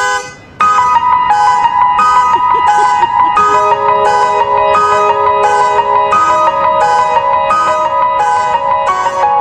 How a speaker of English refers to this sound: You hear a car alarm and it's like, I hope that thing, nobody calls the cops. Right. Nobody does anything, just let it be there.